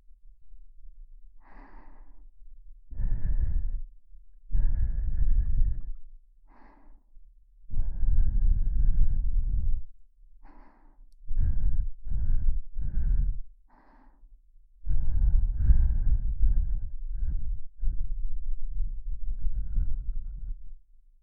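Slow, breathy exhales very close to the microphone, repeating roughly a dozen times in an uneven rhythm, some short and some drawn out, with no talking.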